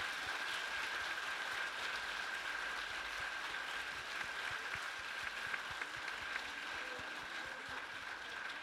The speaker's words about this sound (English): What a wonderful performance. Can we give our choir one more round of applause?